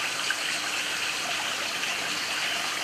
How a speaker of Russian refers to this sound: Источник, он был совершенно разрушен. Здесь были остов камней. И вода вытекала совершенно свободно вот прямо в этом месте для паломников, для купания.